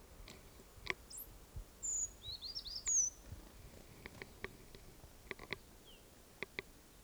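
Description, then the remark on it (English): A bird in a flock gives a sharp 'toop' alarm call amid scattered high, thin chirps from the flock, with a few quick clicks and ticks over a quiet outdoor background. “There was a toop there, or alarm call, by one of the birds.”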